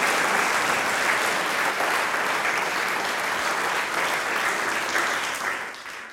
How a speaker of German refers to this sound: Ihr kriegt einmal einen Applaus. Ihr habt das so großartig organisiert, muss ich wirklich sagen.